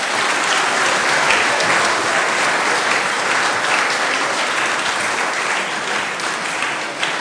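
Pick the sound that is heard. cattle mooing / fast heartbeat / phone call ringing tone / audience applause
audience applause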